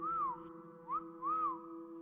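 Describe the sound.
A person whistles a signal call in the darkness: three short rising-and-falling notes, the last one longest, clear over a steady low droning hum.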